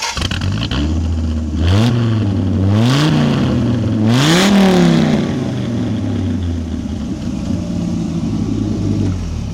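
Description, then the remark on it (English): A warmed-up car engine, already driven, idles roughly after being started, then revs up three times in quick succession, each rise sharp and loud before settling back to a steady, rumbling idle. “They're not cold as we're starting them up and revving them.”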